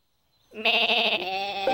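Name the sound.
sheep bleating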